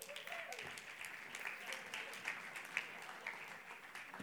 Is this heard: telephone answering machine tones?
no